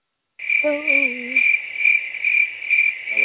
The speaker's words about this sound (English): I had to give the cricket. I was going to get the crickets for that guy. I forgot to give him the cricket, so that's what the crickets is for.